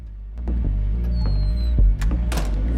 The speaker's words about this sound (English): He opens the door and walks inside.